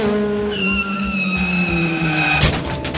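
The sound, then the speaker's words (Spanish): A loud, drawn-out squeal of car tires skidding for about two seconds ends in a sudden crashing impact as the car crashes into a motorcycle, followed by a brief clatter of debris. No one speaks. “El carro que lo iba a atropellar chocó 2 metros antes contra una motocicleta.”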